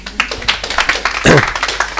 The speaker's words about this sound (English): Amen. You can clap them again.